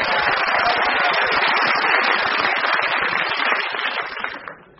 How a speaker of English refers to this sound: I can guarantee that I can force a round of applause out of the mindless sheep in the studio audience here today.